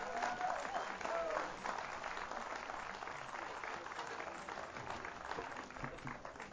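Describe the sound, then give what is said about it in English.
Sustained applause from a sizable audience at a concert venue for the band members after their performance, a dense steady wash of many hands clapping at once, with a brief faint cheer or whistle near the start. “How about another round of applause for all the band members?”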